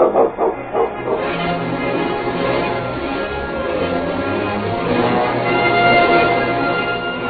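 A team of sled dogs barks and whimpers together: a few sharp barks at the start, then a steady, noisy chorus of yelps and whines that stays fairly loud throughout.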